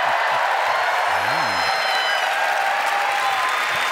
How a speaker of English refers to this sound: Why are you applauding her? She abandoned you.